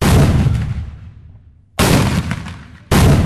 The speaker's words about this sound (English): The sounds of cannons and muskets near the mouth of Mobile Bay are just ceremonial. It's all part of the show modern-day reenactors do for visitors at Fort Gaines.